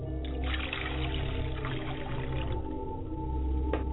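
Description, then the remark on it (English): Water pours steadily into a glass for a few seconds, poured for the mother's side of the family in an ancestor ritual, a continuous trickling and gurgling with a faint ringing tone, heard alone without any talking. “And I pour a glass of water for my mother's side.”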